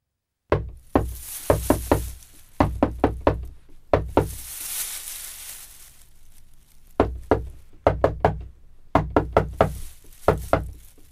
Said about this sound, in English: Then why didn't you answer the secret knock? We didn't know it was a secret knock.